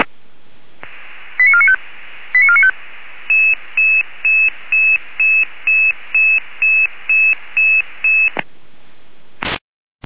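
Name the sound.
emergency dispatch alert tones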